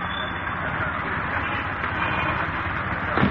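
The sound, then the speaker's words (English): A train to Philadelphia runs steadily along the rails, a continuous rumble and rushing noise at even loudness throughout, with a slightly louder clatter right at the end. “First, I hopped on a train to the city of brotherly love.”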